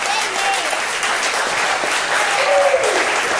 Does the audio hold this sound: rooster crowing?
no